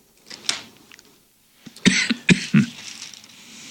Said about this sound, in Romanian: E vremea tușitului.